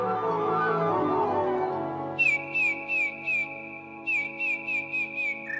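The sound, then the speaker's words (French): A song thrush sings loud, fluty whistled notes repeated in quick runs, two bursts of similar high phrases over a low, steady tonal background that begins alone before the song enters. “C'est un oiseau qui a un chant très fort, très sonore, très flûté, avec des répétitions.”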